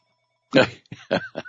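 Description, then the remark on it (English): A telephone rings in four short bursts, the first longest, then three quick chirpy ones in a choppy rhythm. It is fairly loud, with no talking over it. “Let me grab that. It's a bad phone.”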